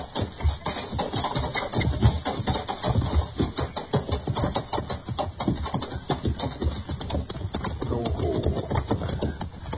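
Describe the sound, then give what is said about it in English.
Horse hooves clip-clop in a steady, busy rhythm as riders ride down, the dense thuds fairly loud, running without pause for the whole stretch. “Let's ride down and say hello anyway.”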